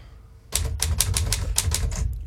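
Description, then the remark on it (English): A typewriter, typed on so its sound can be recorded and manipulated, clatters away in a quick, steady burst of sharp key strikes, about ten in under two seconds, fairly loud with a low rumble beneath and no voices. “So it's a kind of abstract written sound came from the typewriter.”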